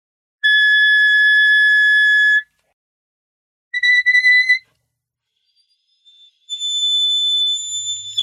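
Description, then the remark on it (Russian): Very high, piercing notes played on an instrument in three bursts: a steady two-second tone, a shorter wavering one, then a still higher, shrill note, reaching about D in the fifth octave. Each is pure and whistle-like, with no talking. “Но это была пятая октава, наверное, где-то ре, пятая октава.”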